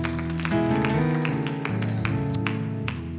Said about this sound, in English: Why don't you clap your hands as you're seated tonight?